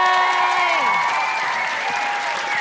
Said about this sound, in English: Big round of applause for Sue. Yay!